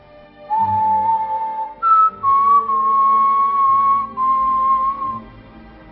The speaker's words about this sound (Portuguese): para de assobiar. Como é que tu podes?